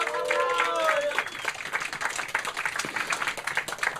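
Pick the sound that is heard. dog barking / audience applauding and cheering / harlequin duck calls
audience applauding and cheering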